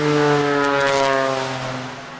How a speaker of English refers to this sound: There's no airport around here anywhere, but we have a lot of planes. Yeah. Yes. Airplane noise. Isn't it great?